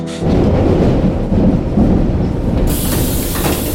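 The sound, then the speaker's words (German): A subway train roars through a tunnel, a loud, steady rumbling rush with rhythmic clattering underneath. It stays heavy throughout, and no one speaks. “Und schreckst mitten im Klackern und Rauschen des U-Bahn-Tunnels auf.”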